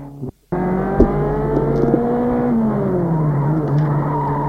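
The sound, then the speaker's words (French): A car engine roars loudly and steadily, its harmonic pitch sliding as it speeds off, with a brief screech of tires near the start after a moment of silence, as the car is started abruptly and driven off very fast. “il met la voiture et démarre en trompe. Ils ne savent pas vraiment conduire. Paniqués tous deux, la voiture file au hasard très vite.”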